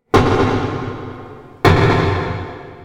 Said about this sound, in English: Here's what pile driving sounds like when you record it that way. Water muffles the sound, so as a human listening to this, it probably doesn't sound so bad, right? But to a fish, it's like the sound of firing a gun next to your head.